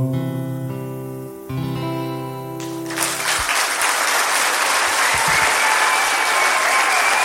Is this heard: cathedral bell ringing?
no